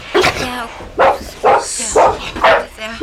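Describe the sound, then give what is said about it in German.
A dog barks repeatedly in a steady rhythm, about six sharp, loud barks, each with a brief tonal yelp quality. “Hey, was ist denn mit eurem Hund los? Ruft den sofort zurück.”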